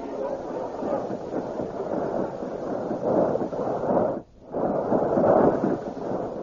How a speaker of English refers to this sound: You see, my prince, what the combustion ray machines do. They cough out flaming death.